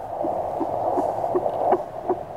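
A fast, steady fetal heartbeat pulses through a small handheld doppler device, about six rhythmic whooshing beats over a constant hiss and hum, fairly loud, with no voices.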